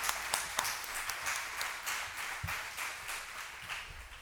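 An audience applauds steadily for about four seconds to welcome a speaker, a dense wash of many overlapping claps with a few sharper individual hits standing out, fairly soft and even throughout, with no talking.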